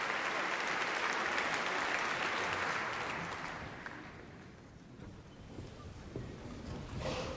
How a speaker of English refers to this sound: Ladies and gentlemen, thank you so much for this wonderful applause. It's a real pleasure to be here.